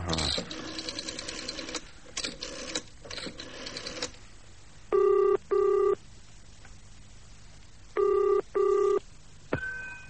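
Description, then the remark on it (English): A telephone rings on the line in two distinct double-ring bursts with a pause between them, heard after several seconds of mechanical clicking and whirring like a dial being turned. “Now let's try A. It could be Angelica.”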